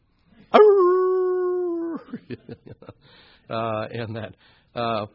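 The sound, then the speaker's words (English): Jackals howl: one long, steady wailing howl, then a quick run of sharp yips, followed by two shorter, mournful wailing cries. “I'll make a wailing like the jackals and a mourning like the ostriches.”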